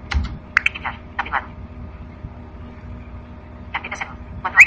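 A few light, irregular key clicks and taps on a braille display, in small clusters with pauses between, as a cursor button is pressed to activate a send button and post a tweet, then a final pair of presses near the end over a quiet hum.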